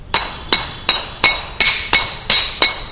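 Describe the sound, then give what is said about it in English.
Small hand cymbals clink in a steady rhythm during kirtan, about three bright metallic strikes per second, each ringing briefly with high shimmering tones before the next hit. No voices are heard. “When you visit Hindu temples and look at their kirtan, why is it? They're just knocking things, right?”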